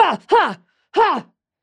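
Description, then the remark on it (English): Three short, strained grunting breaths, fairly loud, each a voiced heave rising then falling in pitch, performed by a voice demonstrating fighting breathing as if exerting itself in a struggle, with brief pauses between them. “Here's fighting breathing.”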